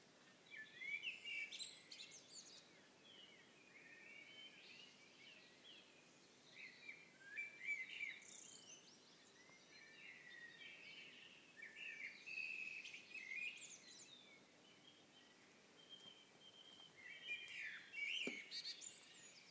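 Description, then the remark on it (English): A busy chorus of birds sings and chirps continuously in a garden at 4:30 in the morning, several overlapping calls rising and falling, with a faint background hum and no talking. “if you can hear it or not, but the birds in this garden are going crazy this morning.”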